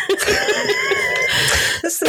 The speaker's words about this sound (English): I still have a bit of a cough, so apologies